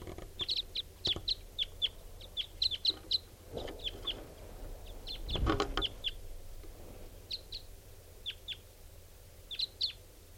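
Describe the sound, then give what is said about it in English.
Wild birds, including some type 5s, call with many short, high chirps in quick clusters as they come in at a clearing at 6:54, repeating throughout with brief pauses, joined by a few low thumps and rustling bursts. No one speaks. “Birds are coming in, including some type 5s.”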